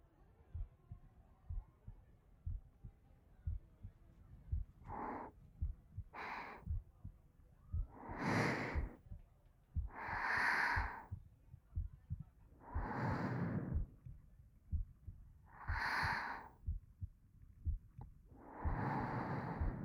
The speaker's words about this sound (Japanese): そうね。例えば、 こうして、私の心音チェックをしてくれる、とか？